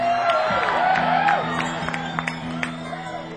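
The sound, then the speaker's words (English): A large evening audience of guitar fans cheers and screams loudly, a dense wash of voices with high whoops and shrieks cutting through, plus scattered claps, sustained for the whole stretch with a steady low hum underneath. “Kind of crowd I like, actually. Scream all you want.”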